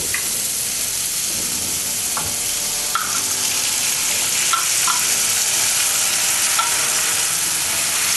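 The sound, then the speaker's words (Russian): Chopped pickles sizzle steadily as they are briefly fried in a hot frying pan, a constant hiss punctuated by a handful of light scraping clicks as a utensil stirs them. No one speaks. “Теперь сюда же, в эту сковородку, мы добавляем нарезанные наши огурчики. Еще немножко обжариваем.”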